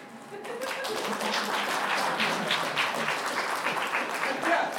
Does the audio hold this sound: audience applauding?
yes